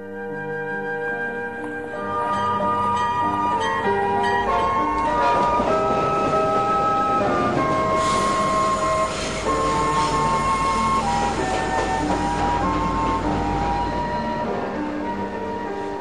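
A train pulls away, its steady low rumble building as shrill metallic squeals and whistling tones ride on top, loud and continuous for the whole stretch with no voices.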